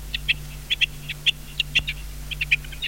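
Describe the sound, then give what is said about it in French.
Birds singing in a garden on a fine day, a steady run of short, high chirps repeating in quick bursts, moderately loud over a faint low background hum, with no voices. “Il fait beau, les oiseaux chantent.”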